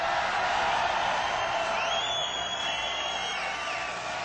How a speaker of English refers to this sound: An entertainer is only as good as his audience. Please give yourself a big round of applause.